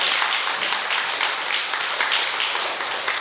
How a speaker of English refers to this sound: All right, now let's give the Lord, a hand clap of praise.